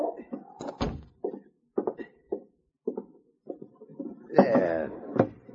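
A box is handled and put away: a run of dull thuds and knocks at uneven intervals, ending in a louder bump as a brief voice sounds near the end.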